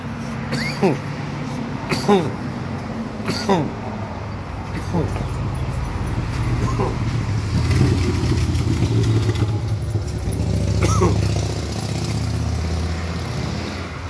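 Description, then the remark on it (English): Busy New York City street traffic: a steady rumble of cars, buses and motorcycles passing, punctuated by sharp clanks and brief high-pitched squeals, with faint voices mixed into the bustle. “Busy streets in New York City, dog.”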